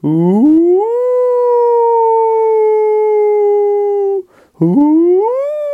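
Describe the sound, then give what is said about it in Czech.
A person imitates a she-wolf howling at the moon: a long, rising, sustained wail held for several seconds, a brief breath, then a second howl beginning to rise. Loud and alone. “A vila je, znamená, že když to byla třeba nějaká fena od vlka, jo, nějaká vlčice, tak třeba vila na měsíc a vila tímto způsobem.”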